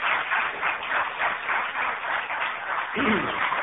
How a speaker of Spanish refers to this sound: Lamento haber despertado a los muchachos que están durmiendo ahí con este aplauso. Muchas gracias.